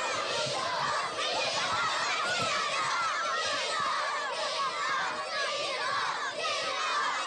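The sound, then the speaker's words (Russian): A crowd of children surround a man on all sides in the aisle of a club, shouting and chattering all at once, a dense, continuous wall of overlapping young voices, with occasional laughter breaking through the din. “Дети обступили Дынина со всех сторон в проходе клуба и что-то кричат.”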